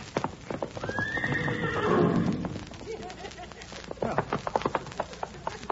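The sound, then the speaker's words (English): A horse named Dynamite, being ridden as someone tries to tame it, whinnies in a long, wavering cry while its hooves clip-clop in a quick, steady rhythm, the hoofbeats carrying on sharply after the whinny fades. “Now the horse is tired out, I'll put the saddle on him.”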